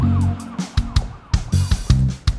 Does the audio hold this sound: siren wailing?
yes